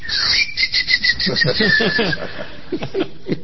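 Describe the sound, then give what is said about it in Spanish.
A high, squeaky whistle sounds in a series of short bursts, imitating a squeaky sausage toy bitten by a dog, with soft chuckling laughter rippling underneath and continuing after the whistling stops. “El perro muerde el chorizo y el chorizo.”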